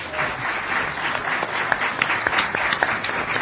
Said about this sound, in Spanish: Es la hora de los saludos, es la hora de dar la bienvenida a quienes nos acompañan en esta tertulia de los viernes. Les pido que los vayan recibiendo con un aplauso al doctor Carlos Maggi en primer lugar.